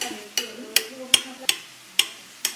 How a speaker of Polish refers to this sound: Emila teraz sieka natkę pietruszki.